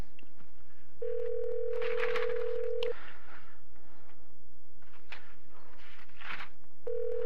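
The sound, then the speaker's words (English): A steady telephone dial tone hums for a couple of seconds, then quick touch-tone beeps as a number is dialed, with the dial tone returning at the end, as Free Radio Santa Cruz phones in to a guest. Clear, no talking. “And now we're phoning in”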